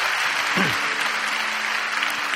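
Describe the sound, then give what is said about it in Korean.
An audience at a Sunday 12 o'clock church service applauds to bless a deacon after a Korean traditional music performance, a dense wash of many hands clapping at an even, fairly loud level, with a brief voice rising through it early on. “우리 박수로 한번 축복하겠습니다.”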